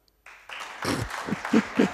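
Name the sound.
brief applause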